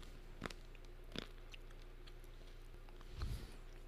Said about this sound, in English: Maybe I should eat an almond in between, too. Should I?